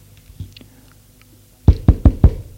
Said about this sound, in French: On frappe à la porte. C'est la jeune fille qui entre.